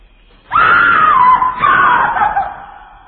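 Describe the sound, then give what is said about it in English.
A loud, wailing scream-like tone rises suddenly, holds for about a second, dips, then swells again before fading, like a doorbell chime that sounds eerily like a human shriek. “You heard scream. More experience here. A doorbell.”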